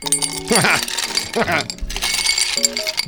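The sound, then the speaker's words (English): Bright, glassy clinks and rattles of ice cubes tumbling into a rocks glass for a White Russian, scattered over about three seconds, with a voice and steady tones running underneath. “So you get a rocks glass and you fill it up with ice.”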